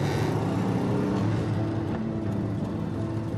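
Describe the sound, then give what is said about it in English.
A small car rolls through the leafy suburbs of Jerusalem with a steady, low engine hum and faint tonal whine, holding an even, moderate level with no voices. “On April 15th, 1983, a small car rolled through the leafy suburbs of Jerusalem.”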